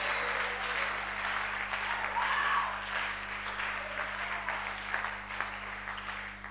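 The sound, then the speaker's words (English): An audience claps together in a dense, steady burst of applause that stays fairly loud for about six seconds, with a few faint voices mixed into the clapping. “Somebody must clap better and shout louder.”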